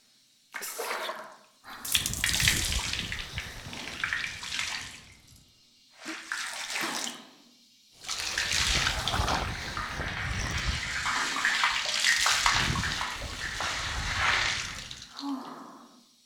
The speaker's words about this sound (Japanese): シャンプーする前にこうやって髪をお湯で洗うと泡立ちが良くなるんだって。ただ髪を濡らすんじゃなくてちゃんと洗うのが重要。指でしっかり洗って